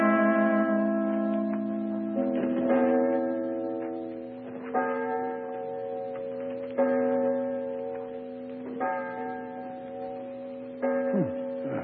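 A clock strikes the hour with a series of deep, resonant bell tones, about six slow strokes spaced roughly two seconds apart, each ringing out and overlapping the next. No one speaks.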